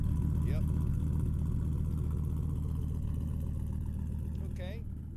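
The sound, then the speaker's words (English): A loud, rough Ford 250 pickup with a V10 engine, probably straight-piped with no muffler, idles with a deep, uneven rumble that rises and falls, a choppy misfire in its rhythm, with a couple of brief chirps over the top. “I believe they've probably straight-piped the pickup. It probably doesn't have a muffler on it, to be honest with you.”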